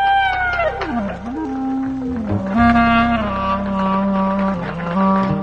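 A clarinet plays long, wavering tones that slide and bend in pitch over a steady low rumbling bed, with occasional faint clicks scattered underneath; no voices.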